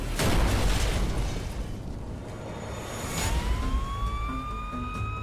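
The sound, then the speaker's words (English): A loud explosion booms at the start and rumbles on for a few seconds, then high rising siren-like wails come in over the fading roar. An explosion rocks a house in a rural community about 15 miles outside Anchorage. “I just heard a loud explosion and it rocked her house.”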